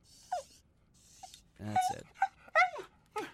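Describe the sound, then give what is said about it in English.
A dog whimpers and yelps in a series of short, high, falling whines, several cries spaced over a few seconds, fairly loud, with no talking. “Mr. Steele, you did not just shoot that poor doggy.”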